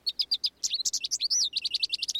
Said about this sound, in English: And the American goldfinch.